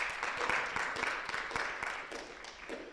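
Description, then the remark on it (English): A church audience applauds the media ministry, a dense, steady wash of many hands clapping with a few sharper individual claps, tapering off slightly toward the end. “Yes, we can give him a round of applause.”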